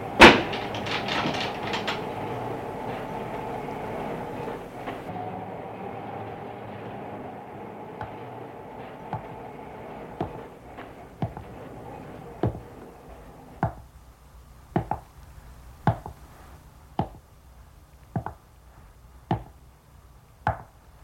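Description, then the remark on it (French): A small, narrow wooden entrance door off the alleyway of a large grey-fronted building scrapes and rattles loudly as it opens, then a quieter stretch follows before a steady series of sharp, evenly spaced knocks as the badly closing door bangs against the frame. No voices. “On entre par l'allée, par une petite porte en bois étroit. La porte ferme mal.”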